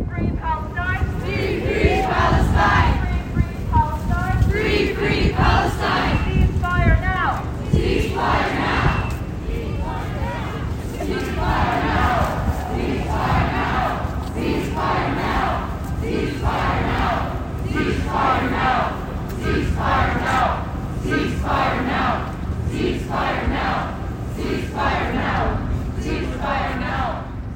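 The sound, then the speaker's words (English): A protest crowd of approximately 250 students, faculty and community members at Ontario Hall, Queen's University, chants together in loud, rhythmic bursts of shouted voices, repeating a steady cadence over constant crowd noise for the whole stretch. “Students, faculty, and community members met at Ontario Hall, with a crowd of approximately 250 people gathering for speeches and participating in chants.”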